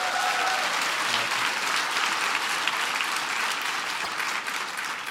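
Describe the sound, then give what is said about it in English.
An audience gives Strive a big round of applause, a dense wash of many hands clapping at an even, fairly loud level for several seconds with no voices breaking through. “So give Strive a big round of applause.”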